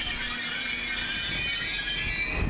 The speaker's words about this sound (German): Shit, der scheiß Zug explodiert jetzt gerade! Wir werden alle sterben!